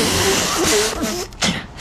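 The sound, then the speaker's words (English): A single loud sneeze: a sharp, breathy burst of spraying air with a brief voiced edge, then a short catch of breath after it. “Bless you.”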